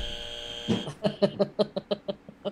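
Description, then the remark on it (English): A steady electronic tone gives way to a rapid series of about eight harsh buzzer pulses, evenly spaced and fairly loud, with no talking. “Do you have a buzzer in the truck?”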